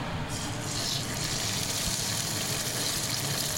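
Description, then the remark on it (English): Broccoli fritters bubbling in a very hot deep fryer, a steady, dense crackling hiss of oil that holds at an even, fairly loud level throughout, with no voices over it. “Okay, they're bubbling away nicely.”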